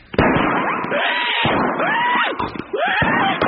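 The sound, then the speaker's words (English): Fireworks at a fair at night go off in a loud, continuous barrage of crackling bursts, with several whistling streaks rising and falling in pitch over the steady roar. “What's that? It's the fireworks.”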